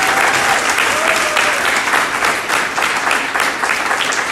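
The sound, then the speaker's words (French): A crowd applauds three musicians steadily, dense overlapping claps forming a loud, continuous wash of sound that holds for several seconds with no voices standing out. “Je propose même qu'on les applaudisse, c'était tellement génial.”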